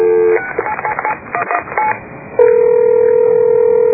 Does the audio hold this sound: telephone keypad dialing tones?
yes